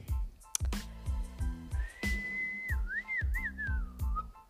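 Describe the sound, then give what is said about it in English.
Someone whistles close by, holding one long steady note before sliding into a short wavering tune, over a steady, thumping rhythmic beat. “I did not mean to whistle in your ear.”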